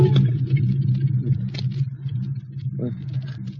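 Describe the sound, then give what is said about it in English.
A car engine idles steadily, a continuous low rumbling hum, with a few faint clicks and shifts over the top but no talking. “Car. Monoxide fumes. Turn off the ignition.”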